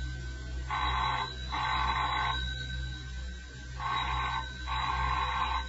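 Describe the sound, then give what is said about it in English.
A telephone rings twice in a classic double-burst pattern, each ring a pair of buzzy trills, repeated after a pause, moderately loud over a low steady hum with no talking. “I'll get that. You don't have to answer the phones or the front door, ever.”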